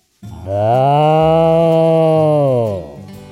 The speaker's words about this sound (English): Now it's time to check out the cattle in the barn. Look at those cows!